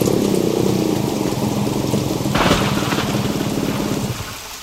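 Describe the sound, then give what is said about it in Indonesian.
Heavy rain pours down steadily in a dense, hissing wash, with a low rumble underneath and a brief louder burst midway before the downpour eases slightly at the end. “Oh iya, tapi biasanya hujan begini bisa merupakan gejala awal akan terjadinya tanah longsor.”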